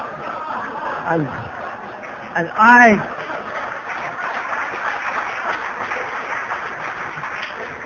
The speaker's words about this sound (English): Let me say at this moment that I've never been applauded like that. I hope it doesn't go to my head, because I don't want this to be show business.